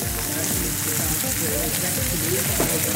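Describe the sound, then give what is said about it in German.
Steady, dense sizzling of food frying in a hot pan, a continuous crackling hiss at moderate loudness with faint low rumbles underneath, no clear speech. “Hier lacht die Pfanne und brät an.”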